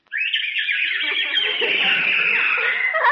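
lovebirds chirping

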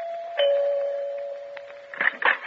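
doorbell ringing

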